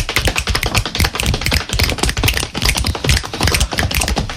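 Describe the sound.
Three people slap their hands on their thighs to imitate falling rain: a dense, continuous patter of many quick irregular taps overlapping into a rain-like rattle that stays fairly loud and steady throughout, with no talking.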